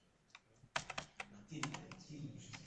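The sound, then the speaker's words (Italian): Several sharp key presses on a computer keyboard as someone tries to type a tilde using the Alt Gr key and the up arrow, clicking in an irregular rhythm, with a low murmur in the background. “Qui bisogna fare al graphics e la freccina in sopra, solo che non mi piglia. Ci avrà una configurazione di tastiera un po' strana.”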